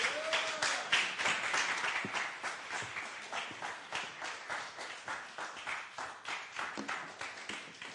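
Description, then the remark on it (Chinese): Sustained applause from a church audience, giving glory to God and welcoming a pastor before a sermon, dense overlapping claps with a steady rhythm, fairly loud throughout and fading slightly toward the end, with no voices. “这时候，让我们用掌声将荣耀归给神”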